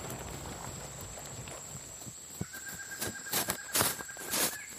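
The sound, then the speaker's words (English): A handful of horse hooves clip-clop unevenly, the hits growing a little louder toward the end, over quiet outdoor ambience with a steady high whine. It is the horse of Zara, a Truthseeker guard, who sits atop it at a guardsmen's camp in the woods several miles from Blue Mist Village. “Zara, a Truthseeker guard, sits atop her horse and gathers her men.”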